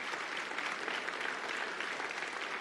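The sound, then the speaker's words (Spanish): An audience applauds the Lord steadily, a dense, even wash of many hands clapping with no pauses or peaks, filling the short span without any voices rising above it. “Den un aplauso al Señor que se lo merece.”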